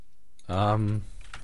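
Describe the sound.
Someone types a YouTube search for "jet blast" on a computer keyboard, a short run of quick, light key clicks following a brief hummed voice sound.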